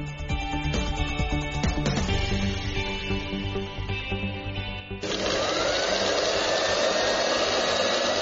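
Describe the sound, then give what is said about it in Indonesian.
Sewing machines and a fabric cutting machine whir and drone continuously with a steady mechanical hum in the sewing and screen-printing room of SMK Negeri 5 Palu, Palu, where medical protective clothing is being made; around the midpoint the sound shifts to a louder, harsher motor buzz. No one speaks. “Riuh suara mesin jahit dan mesin pemotong kain terdengar di ruangan jahit dan sablon di SMK Negeri 5 Palu.”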